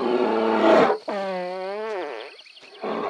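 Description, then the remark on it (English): A bear lets out a long, buzzy fart that wavers in pitch for about a second, framed by rough, breathy animal grunts before and after. No one speaks. “It's like in this recording, this bear farts and like enjoys it thoroughly afterwards.”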